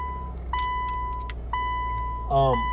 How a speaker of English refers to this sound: I'm gonna drive and record. I'm using my lapel mic. Just started the car.